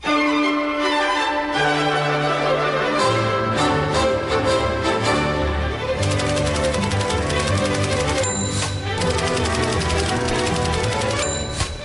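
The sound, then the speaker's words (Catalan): A lively orchestral instrumental plays at full volume, with rapid bursts of typewriter-like clacking and occasional bell dings punctuating the melody. No one speaks. “Aquesta sintonia es diu La màquina d'escriure.”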